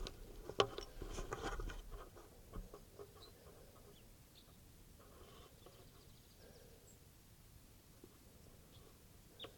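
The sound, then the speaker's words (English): A wild type 2 bird calls faintly with short, scattered clucking notes over quiet outdoor ambience, recorded at 6:09, with a couple of sharp knocks early on. “Sounds like there's a wild type 2 around here somewhere.”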